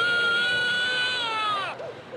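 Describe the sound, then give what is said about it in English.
A recording of a real baby crying: one long, high, sustained wail that slowly sinks in pitch and breaks off with a falling catch, followed by a brief whimper over a low murmur of background noise. “If those cries sound disturbingly real, it's because they're recordings of actual babies crying.”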